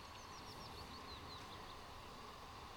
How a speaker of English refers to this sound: As you hear birds, a gentle rush of a creek or water moving.